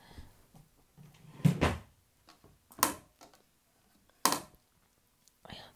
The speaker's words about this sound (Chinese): 哦，对了，我去姐姐抽屉里翻一下，看看有没有。